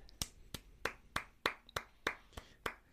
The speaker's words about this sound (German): Ich halte mich parat. Meine Hände sind bereit zum Klatschen.